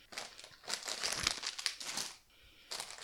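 Crinkly plastic bag rustling in several bursts as party supplies such as snacks, candy and bowls are pulled out in a kitchen, bright crackling noise that pauses briefly, then resumes, with no voices.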